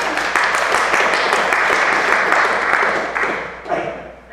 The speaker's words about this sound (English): I don't think the pastor said anything about clapping hands. Well, I think we should.